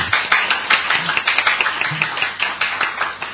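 An audience applauds the performers who acted out a testimony story, a steady patter of many hands clapping at once, lively, with no talking over it.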